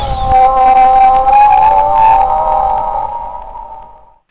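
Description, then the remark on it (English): A whale song: one long, mournful moaning call with slowly wavering pitch and a soft, breathy wash beneath, holding steady for several seconds before fading away. No one speaks. “Oh, I love that whale song.”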